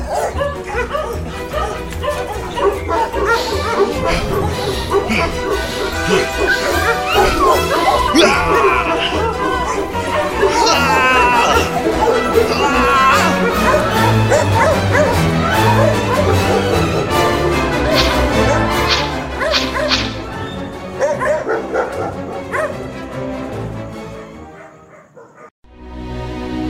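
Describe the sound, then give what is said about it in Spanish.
A pack of dogs, set upon a man, barks, yips and snarls in a loud, frantic, nonstop frenzy, with whimpers mixed in, before the commotion drops away abruptly near the end. “¡Echadle los perros!”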